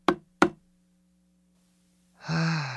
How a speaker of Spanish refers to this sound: Estaba a punto de dormir cuando 3 golpecillos secos sonaron en mi puerta.